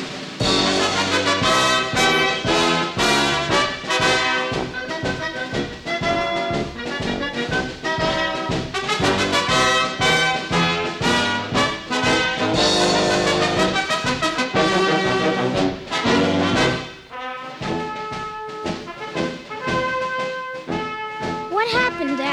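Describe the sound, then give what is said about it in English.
A full marching band plays together loudly, brass and drums driving a steady beat, thinning briefly near the end before carrying on without any voices. “Now they'll all play together.”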